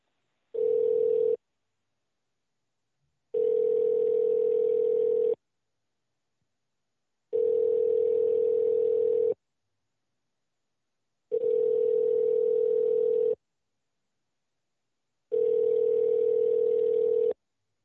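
A steady telephone line tone pulses on and off five times in an even rhythm, each burst about two seconds long with matching gaps, clear and alone as a call connects.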